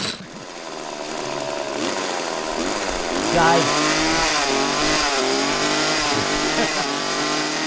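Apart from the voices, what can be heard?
chainsaw revving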